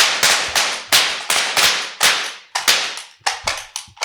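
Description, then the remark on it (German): A rapid, irregular string of about a dozen sharp popping bursts from confetti cannons, each a loud, hissy blast that quickly fades, with no voices. “Aber ich habe die Konfetti-Kanonen nachgeladen.”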